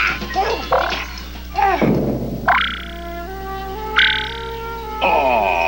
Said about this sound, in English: Oh, froggy frog, hop, hop, bye-bye.